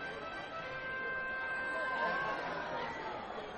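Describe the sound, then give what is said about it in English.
A large crowd of baseball fans murmurs steadily in the stands of a ballpark on a 91-degree night, a dense wash of overlapping chatter and voices at moderate, even loudness with no single voice standing out. “It's definitely the best crowd of the week.”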